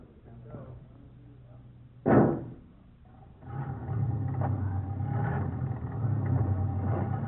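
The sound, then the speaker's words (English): An old car engine idles with a low, steady hum, gives a sudden sharp burst, then settles into a louder, rough, rumbling run that continues to the end. “I wonder if there are any brakes on this heap”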